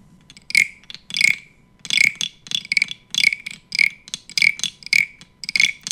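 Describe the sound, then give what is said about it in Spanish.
Toads croak in a steady series of about ten raspy, fairly high-pitched calls, each a short buzzy burst separated by brief pauses, with no voices present. “¿Qué es? ¿Unos sapos? Sí, y se acaba nuestro viaje.”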